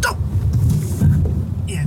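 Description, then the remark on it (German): A car brakes hard during emergency-stop practice and the anti-lock braking system (ABS) engages, for the first time on the third attempt, producing a rapid, rough pulsing rumble beneath low engine and road noise, with a brief hiss near the end. “Nach dem dritten Mal ist das erste Mal das ABS, das Antiblockiersystem, angesprungen.”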